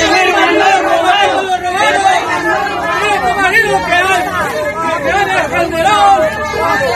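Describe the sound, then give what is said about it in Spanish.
A loud crowd shouts and chants over one another at the Brooklyn court, a dense, continuous babble of raised voices with rising and falling calls alluding to Calderón's presidential term, as García Luna's wife and daughter leave the court. “La esposa e hija de García Luna salieron de la corte de Brooklyn en medio de gritos que aludían al sexenio de Calderón.”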